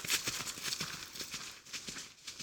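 Hooves pound in a quick, steady galloping rhythm, Tristan's horse carrying him and Iseut at speed toward the forest, with repeated sharp thuds over a bright, noisy background, no voices present.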